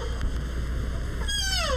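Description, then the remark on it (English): A baby deer fawn at a children's zoo gives a single high, thin bleat that slides downward in pitch near the end, heard over a steady hiss of background noise. “These baby deer fawn.”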